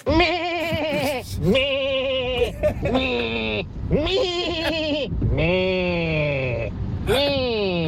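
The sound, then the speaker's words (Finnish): A person imitates a sheep's bleat for an animal-sound karaoke segment, producing several long, wavering vocal bleats in a row with brief breaths between them, loud and quavering throughout. “Toinen hyvä, että miltä lammas kuuluu.”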